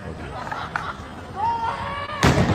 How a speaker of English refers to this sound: they felt the need to celebrate, but not in their homes, but out in the street, and not just by drinking or cheering, but by setting off fireworks. And if you're going to set off celebratory fireworks, try not to blow your finger off.